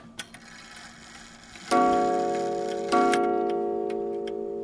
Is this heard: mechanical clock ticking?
yes